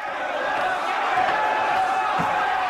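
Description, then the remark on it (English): A dull thump lands once near the end as a soldier slams a mercenary's arm onto the table, ending an arm wrestling match in a packed tavern, over a steady background of crowd murmur and indistinct voices. “slams the mercenary's arm onto the table.”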